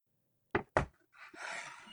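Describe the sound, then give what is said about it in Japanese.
The door of a house opens: two sharp wooden clunks from the latch or handle, then a soft, sustained rushing swoosh as it swings open, with no voices. “扉を開けると、室内の温度が流れ込む。”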